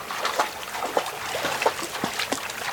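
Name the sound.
water trickling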